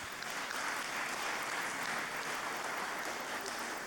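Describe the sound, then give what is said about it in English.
Sustained applause from a church audience for a 16th birthday, a dense, steady wash of many hands clapping at once at an even level without a break for several seconds. “Big claps.”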